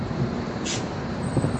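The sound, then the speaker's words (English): A short hiss of bus air brakes cuts through steady street traffic rumble in Flatbush, Brooklyn, with snow on the ground, a single burst lasting a fraction of a second with the engine noise continuing around it. “Here comes another bus.”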